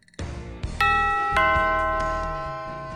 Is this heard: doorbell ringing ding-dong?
yes